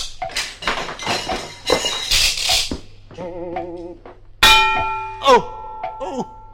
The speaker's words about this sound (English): Oh, say, watch out for that swinging pendulum. We have to go through between ticks. It's very annoying if it hits you on the head.